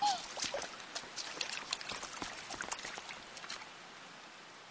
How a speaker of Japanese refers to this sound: 予報はもう信じないだから。突然すっごい雨降るって思ってなかったよ。